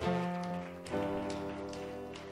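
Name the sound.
audience applause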